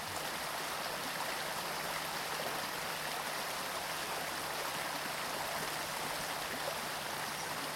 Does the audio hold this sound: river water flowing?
yes